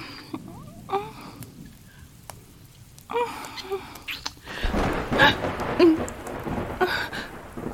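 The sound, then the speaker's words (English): Steady rain patters throughout, and about halfway through a deep, rolling rumble of thunder swells up and lingers beneath the downpour, fairly loud. “I'm not scared of the thunder when you're holding me.”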